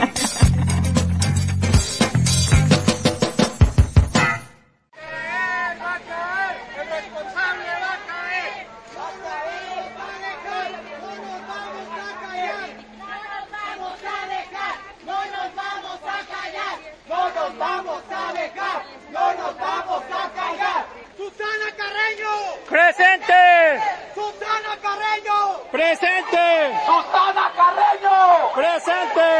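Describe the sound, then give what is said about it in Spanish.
A protest crowd shouts in indignation during a Saturday midday march along Avenida Francisco Medina Asensio, which started at Plaza Marina: many voices yelling together in loud, rising and falling bursts after a short burst of dense noise at the start. “Esos fueron los gritos de indignación que se escucharon el pasado sábado al mediodía durante la manifestación que se realizó a lo largo de la avenida de ingreso Francisco Medina Asensio, que inició en Plaza Marina y concluyó en las instalaciones”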